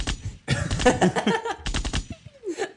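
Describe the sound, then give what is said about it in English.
A loud burst of rapid gunfire, many shots cracking in quick succession, followed by a short lull, a falling whine and a few more scattered shots. “What is Editor Matthew going to do with these gunshots?”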